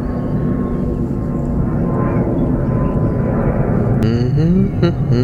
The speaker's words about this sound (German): Ups, da kommt ein Flugzeug. Sekunde. Ja, auch in England, auch in Bergen-Enkheim fliegen manchmal Flugzeuge bei uns. Nicht allzu oft. Nur bei Ostwind.